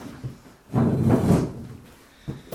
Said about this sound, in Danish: Lukker du døren efter dig?